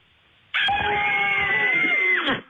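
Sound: family screaming together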